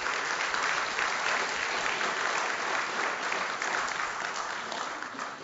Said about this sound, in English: And I want to acknowledge the gracious hand of God in the election on Tuesday. Can we get a round of applause for that?